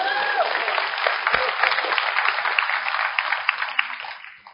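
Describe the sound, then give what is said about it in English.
An audience applauds steadily, a dense patter of many hands clapping at an even level that thins and fades out over the last second. “You can clap. It's fine. You can clap.”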